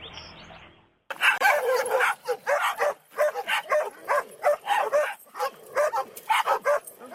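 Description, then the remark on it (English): Six dogs, brought through the double gates into the off-leash area of Magnuson Park, bark excitedly in a rapid, overlapping chorus, loud, with occasional yips and whimpers mixed in, barking almost continuously for several seconds after a brief quiet start. “He was at Magnuson Park in the off-leash area, and a man brought 6 dogs through the double gates, and those dogs were very, very excited to be at the park.”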